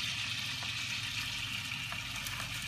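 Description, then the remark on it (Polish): A steady, dense sizzle of bacon frying in melted lard and butter, a bright hiss with scattered soft pops and crackles running evenly throughout, with no voices. “Smalec i masło nam się roztapia.”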